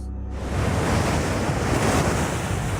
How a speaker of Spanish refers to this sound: Lo único que puedes ver es el blanco del agua rompiendo sobre las rocas.